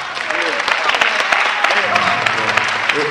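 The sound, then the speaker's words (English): An audience claps steadily throughout, a dense, loud patter of many hands with no clear rhythm, while voices speak and call out underneath. “It's not a clapping thing, because that's my seed.”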